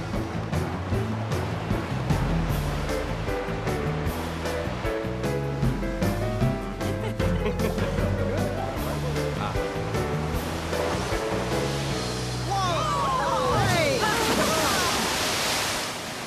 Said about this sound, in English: There might be no thumping, and there might be no sand spraying, but I think there's gonna be a big splash. Look!